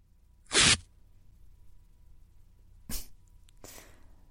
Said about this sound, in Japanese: まずは、非常に地味だが、陰毛をガムテープで抜くか。